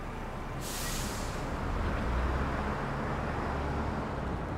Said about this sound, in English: The number on the front reads 505. The door opens, and she boards the bus. The words, Stagecoach Gold, mark the side of the bus as it drives off.